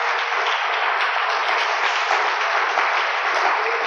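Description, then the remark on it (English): A crowd applauds steadily and loudly, a dense wash of many hands clapping at once that holds evenly for several seconds without fading, clapping for Jesus Christ. “Let's clap for Jesus Christ.”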